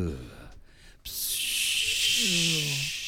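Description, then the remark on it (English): A Febreze aerosol air freshener sprays in one long, steady hiss lasting about two seconds, starting abruptly after a brief pause, fairly loud, with voices murmuring underneath. “Spray some Febreze.”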